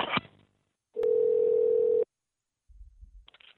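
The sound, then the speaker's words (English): A click, then a steady, unbroken telephone dial tone after a phone call is hung up hums at one pitch for about a second before cutting off, followed by faint low rumbling and another brief click. “Yes, I'm hanging up.”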